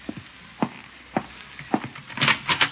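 A door being opened: a string of sharp wooden clicks and knocks at irregular intervals, building to a brief louder rattle and scrape near the end, with no voices.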